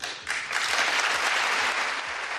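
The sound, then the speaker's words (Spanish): Democrats and Republicans in the United States Congress break into applause for King Charles III, the clapping swelling quickly into a dense, steady roar that stays loud for the whole stretch with no voices standing out. “Pues demócratas y republicanos han aplaudido al rey,”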